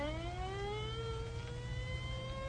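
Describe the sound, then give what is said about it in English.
An ambulance siren wails in a long, slowly rising tone over a heavy, steady low rumble of traffic, holding clear throughout without any voices. “Well, there goes the ambulance.”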